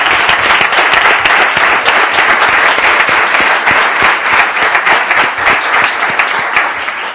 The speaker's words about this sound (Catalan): Sí, doncs, un aplaudiment.